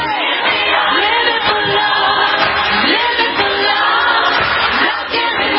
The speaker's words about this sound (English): I'll try to narrate this for people who are listening on the radio right now. They're just showing the crowd clapping.